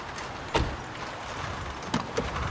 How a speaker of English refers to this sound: The taxi driver opens the car boot.